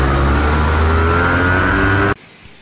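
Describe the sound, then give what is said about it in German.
Loud, steady roar of street traffic with a low engine drone and rising whine, like a car revving past, filling about two seconds before cutting off abruptly into quiet. “Ja, es ist wieder Highlife, hoher Verkehr.”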